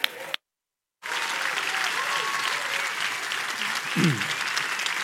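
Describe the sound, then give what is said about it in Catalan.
Sustained audience applause at the Sitges festival welcoming the festival director and the director of the festival foundation, a dense steady wash of many hands clapping, loud and continuous after a brief cut of silence near the start, with faint voices and a short low thump toward the end. “Rebem amb un fort aplaudiment el director del festival,”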